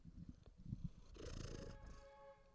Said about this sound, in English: Come back. Come put your purring into the microphone again.